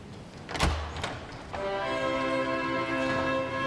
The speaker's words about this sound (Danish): Dørene til festsalen går op, og aftens hovedperson træder ind.